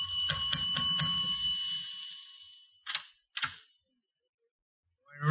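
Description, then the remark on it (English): A doorbell rings in a quick burst of bright, metallic strikes that fade out slowly, followed by two short separate rings; a voice starts up right at the end. “And try the bell. Someplace. Yeah. Try it again.”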